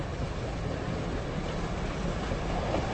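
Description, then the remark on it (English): A steady, rumbling train rolls along the tracks, a continuous low clatter with faint rhythmic clicks, heard from inside a moving car with no voices. “On this train? Eating at the dining car with all of his silver.”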